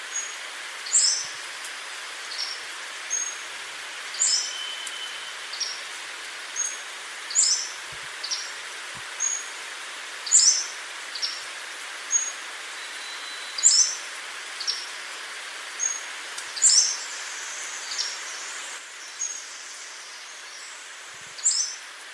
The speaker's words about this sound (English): And the other, I guess, main song of the Pacific Slope Flycatcher, that's part of that song as well. So here's a clip of the Pacific Slope Flycatcher and the other part of its song.